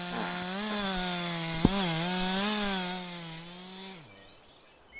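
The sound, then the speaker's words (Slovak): A neighbour's power saw drones loudly and steadily for about four seconds, its pitch wavering slightly, with one sharp click partway through before the engine drops off to a low idle. “Sused zase musí píliť.”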